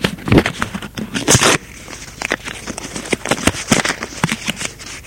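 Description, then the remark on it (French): A sheet of paper is ripped from a notebook: a loud, rasping tear for about a second and a half, then quieter scattered crackles and rustles as the paper is handled. “Déchire une feuille de son carnet.”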